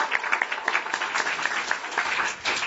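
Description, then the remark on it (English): A crowd applauds the panelists at a Saturday-night panel event, a dense, continuous patter of many hands clapping at once with no voices, holding an even level throughout before a brief dip near the end. “And let's give the panelists a real big warm round of applause.”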